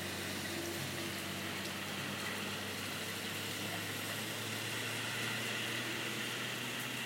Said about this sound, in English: take a listen to the pouring rain and the blowing winds for a second. Which kind of makes it feel somewhat oceanic out here. You can still hear the occasional car slogging through the water, sounding like boats.